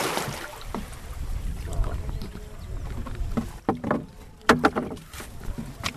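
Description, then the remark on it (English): Fishermen paddle small fishing boats with their catches back to shore at Nyamwere Beach on Lake Victoria, Kisumu County, after a night on the lake. Wooden knocks and paddling splashes sound over a steady wind and lapping water, with faint voices in the background. “Here at Nyamwere Beach on the shores of Lake Victoria in Kisumu County, fishermen with their catches are paddling their boats back to the shores after a night out on the lake.”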